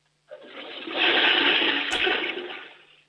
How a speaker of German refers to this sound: Das ist aber eine laute Klospülung. Da kann man schon ordentlich groß reinmachen.